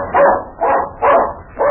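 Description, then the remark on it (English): A dog barks four times in a steady, evenly spaced rhythm, each bark loud with a slightly whiny edge, and no one speaks. “Yeah, now you got to bark it again.”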